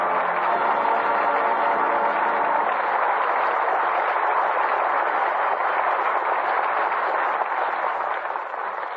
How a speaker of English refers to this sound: With that well-deserved applause, our thanks to Jimmy Stewart and Joan Blondell, who come to the footlights for their curtain call.